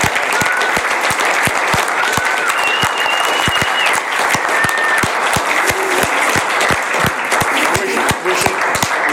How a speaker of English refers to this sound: So let's have a big round of applause for everybody. Thank you very much.